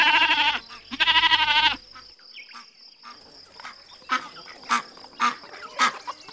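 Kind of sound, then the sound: bird, duck quacking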